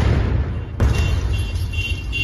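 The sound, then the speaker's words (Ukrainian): A sudden explosion from an FPV drone strike near a car on hospital grounds in Druzhkivka bursts out after a low rumbling background, a single sharp blast followed by a sustained noisy wash. “На території лікарні жахнули.”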